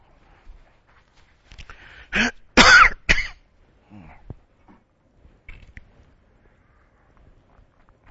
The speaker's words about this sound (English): I hate to cough like that sometimes you have to, but it sure does not sound good on that disc, I'll tell you. With lots of patience, you can go back and take them out, but anyway.